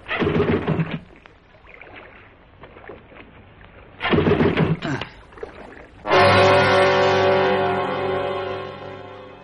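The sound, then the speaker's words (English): A boat motor that has died on a drifting boat on the water sputters through a couple of short, failed pull-start attempts, then catches and settles into a loud, steady running drone. “The motor's died. And the boat's drifting. You stay right there, Rob, while I get it started.”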